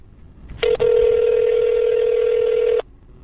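A loud, steady electronic telephone tone holds for about two seconds after a brief click and stutter at the start, then cuts off abruptly, leaving faint background noise.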